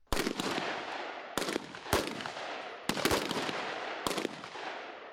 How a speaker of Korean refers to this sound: 11일 경기도 동두천의 미 이사단 부대에선 여러 발의 총성이 울려 퍼졌습니다. 한국에 주둔한 미 이사단과 한국에 순환 배치된 3사단 1기갑여단 병력 등 총 24명이 최고 전사 자리를 놓고 경쟁을 벌이고 있는 겁니다.